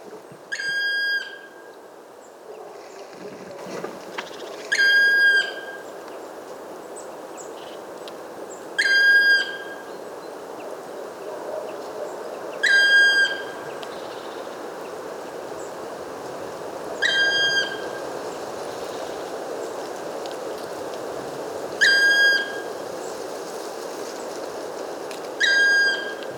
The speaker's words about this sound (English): Black woodpecker, not too close to see it without binoculars, not too far to record it well enough with my parabola.